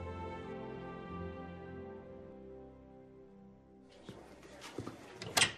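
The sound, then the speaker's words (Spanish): A sustained musical tone fades out, then a bedroom door opens with a brief rattle of latch clicks and a sharper knock at the end. No one speaks. “abrió la puerta y sus ojos se toparon con la mirada triste de su hermana.”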